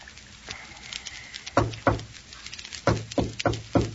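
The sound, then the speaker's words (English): A man knocks on a door in his own recognizable pattern: two firm raps, a brief pause, then a quicker run of four or five more. The thuds are solid and fairly loud over a quiet background, with no talking. “That's his knock. Okay, go to the door.”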